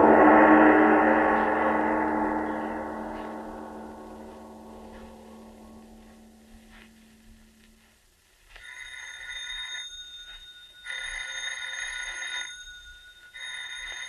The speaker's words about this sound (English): Miss Goddard, answer the phone, please.